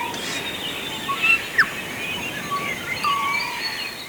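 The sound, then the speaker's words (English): Birdsong in a forest from an album, recordings made over 30 years by a Waiheke musician and engineer: several short, thin chirps and whistled notes from different birds over a soft, steady outdoor hush. “In this hour, we're featuring the album …, recordings of birdsong made over 30 years by Waiheke musician and engineer ….”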